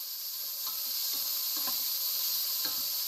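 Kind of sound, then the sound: food or drink, food sizzling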